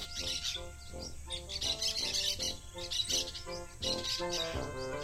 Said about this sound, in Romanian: O pasăre cânta un cântec.